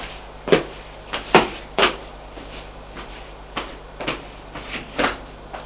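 A door being handled and shut, with a series of sharp knocks, clicks and thuds spread unevenly over a few seconds, otherwise quiet.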